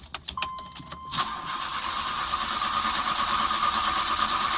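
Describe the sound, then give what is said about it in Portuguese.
A few quick clicks and a brief cranking burst as a car engine starts, then it settles into a steady, continuous hum with a faint whine running underneath, no voices present. “Ou seja, ver o som do motor.”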